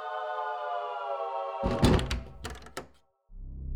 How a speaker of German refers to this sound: Plötzlich waren lange, schwere Schritte und eine Tür über ihnen zu hören.